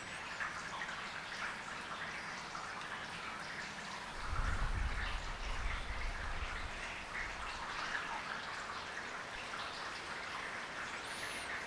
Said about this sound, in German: Und dann könnt ihr ein wenig dem Regen zuhören. Und wenn ihr merkt, dass ihr wegdriftet, das freundlich wahrnehmen und mit der Aufmerksamkeit wieder zum unmittelbaren Hören des Regens zurückkommen.